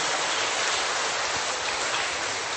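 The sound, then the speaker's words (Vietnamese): Steady rain falls at a parish church in Vietnam in a dense, continuous hiss, even in loudness throughout, with no voices or other distinct sounds standing out. “Cơn mưa nó vẫn không có làm anh chị em cản bước chân để đến với Chúa.”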